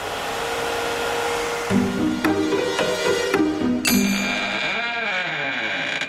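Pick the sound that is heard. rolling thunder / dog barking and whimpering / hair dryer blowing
hair dryer blowing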